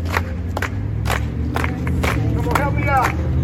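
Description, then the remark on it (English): A dense crowd of voices praying fills the closed-off street corner of Orange Grove and Colorado, with scattered loud hand claps cutting through at irregular moments and one voice rising briefly above the steady murmur. “And when we got to the corner of Orange Grove and Colorado, they closed off that corner. And this is what it sounded like.”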